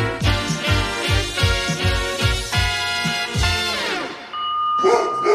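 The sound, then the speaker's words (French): A dog named Fripon, called the guardian of the underworld by its owner, the head of a group of witch volunteers, barks in a rapid, loud series of about ten sharp barks, trailing off before one more brief bark at the end. “la chef des sorcières, et son chien, son gardien des enfers, comme elle l'appelle.”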